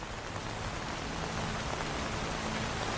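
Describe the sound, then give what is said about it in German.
Steady rain falls continuously, a dense, even hiss of drops pattering on a surface with no pauses, moderately loud, with no voices present. “Denn jeder Regen ist anders.”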